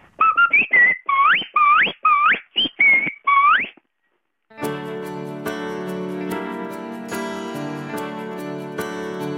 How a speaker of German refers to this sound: zum Schluss nochmal euer Pfiff, wenn es zum Mittag gibt.